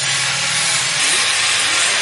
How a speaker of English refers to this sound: The deafening sound of cutting and grinding machines, punctuated by the tapping of hammers and chisels, echoes around the hills next to Sagyin Village, north of Mandalay, Myanmar.